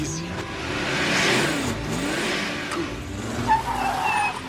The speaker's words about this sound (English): An Aston Martin jerks along a road.